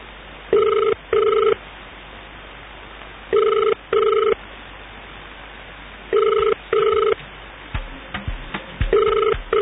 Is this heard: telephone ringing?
yes